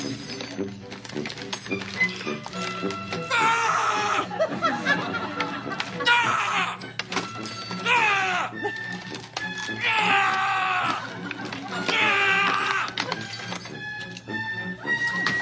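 Stiff plastic packaging crackles and crinkles in repeated loud bursts of twisting and tugging as Larry David struggles to open a plastic pack, with frustrated vocal grunts and exclamations mixed in throughout.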